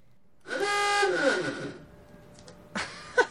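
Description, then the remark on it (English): An old car horn installed on a 30-foot 1987 powerboat named Lake Fever at Marina Key West blares loudly and harmonically for about a second with a wavering, slightly warbling pitch, followed by a quieter stretch and a brief second honk-like burst near the end. “It's an old car horn I installed, so it's just kind of funny.”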